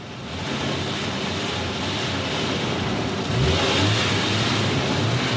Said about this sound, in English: you know I don't allow cars in here.